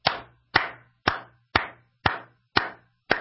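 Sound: one person clapping hands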